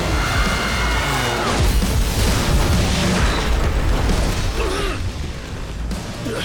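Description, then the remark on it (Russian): A loud explosion with heavy low rumble and crackling debris noise that stays dense for several seconds, then eases off slightly near the end. No one speaks. “Этой штуке вообще похер на взрыв!”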